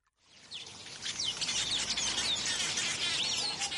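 birds chirping

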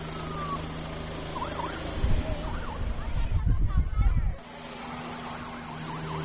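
helicopter taking off

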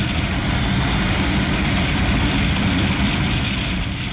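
motorcycle engine running

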